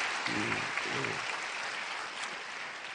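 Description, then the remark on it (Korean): An audience applauds to encourage the choir for its work each evening, in a steady, dense wash of clapping that holds fairly loud throughout, with a few brief murmurs of voices rising underneath early on. “자, 우리 저녁마다 수고해 주신 우리 찬양대 한번 박수로 격려하십시다.”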